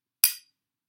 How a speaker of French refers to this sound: Tchac ! Nous commençons à creuser quand surgit la redoutable chicoteuse à picots que jamais rien n'effraie.